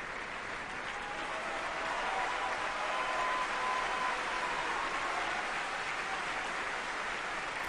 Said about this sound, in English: The audience is filled with folks who've paid top dollar to come and hear you, and at the end of your performance, you're met with this: applause mixed with disapproval.